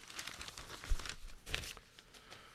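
Crisp rustling and crinkling of newspaper pages being handled, with a few sharper crackles and brief crumpling bursts, no speech.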